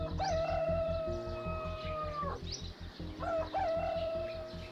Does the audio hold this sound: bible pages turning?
no